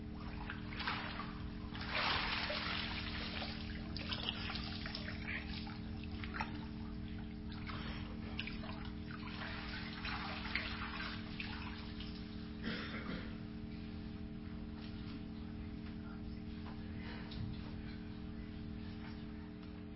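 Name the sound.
water splashing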